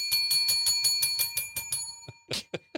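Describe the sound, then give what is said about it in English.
A bicycle bell rings rapidly in a continuous trill of bright metallic dings for about two seconds, followed by a few separate, louder rings, clear with no voices. “I'm just trying to make her feel like there's a lot of bells around.”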